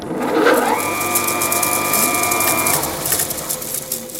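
A sewing machine mechanism in Ueckert's kinetic artwork 'Die tanzende Nadel für Pina Bausch' (2019), shown at the Artmuseum, whirs steadily for a couple of seconds. A humming motor tone and a fast, busy mechanical clatter run alongside, then it settles into lighter rattling. The machine once sewed Pina Bausch costumes.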